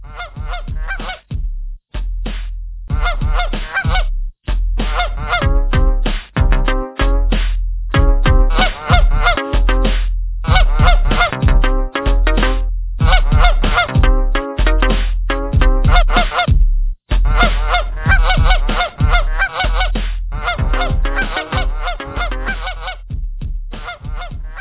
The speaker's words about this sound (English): If you frequented any parks or golf courses in Massachusetts recently, you may have noticed an overwhelming gaggle of Canadian geese parading around the land.